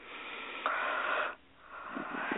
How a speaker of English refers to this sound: And here comes an energy shift. I'm about to yawn.